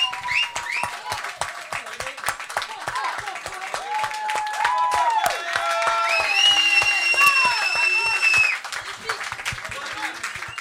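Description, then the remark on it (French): A crowd claps steadily and loudly for about ten seconds for the Has-Been team, with shouts, whoops and a few high whistles rising over the dense applause. “On vous applaudit bien fort, toute l'équipe du Has-Been.”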